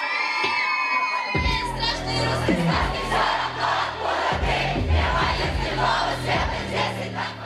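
A big crowd at a concert sings and shouts along to a song in unison, voices loud and continuous over throbbing low bass beats, with sustained tonal music running underneath.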